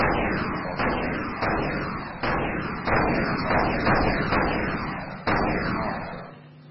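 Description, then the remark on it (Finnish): Repeated booming blasts from a tank video game, explosions and cannon fire going off every second or so over a continuous rumbling din, loud with no talking. “Okei, jos joku ei tykkää räjähdyksestä, niin voihan sitä tehdä sitten vaikka semmoisen, mikä opettaa alakoululaisia tai jopa alle alakoululaisia lukemaan.”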